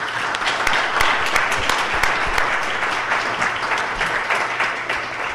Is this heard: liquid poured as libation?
no